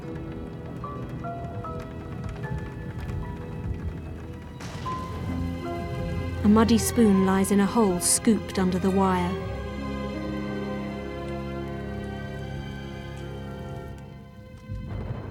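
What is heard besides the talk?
large raindrops falling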